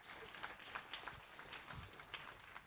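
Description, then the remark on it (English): An audience claps together as a clap offering for Adam, a steady, dense patter of many hands that carries on evenly for a few seconds, moderately quiet, with no one speaking. “Give Adam a clap offering.”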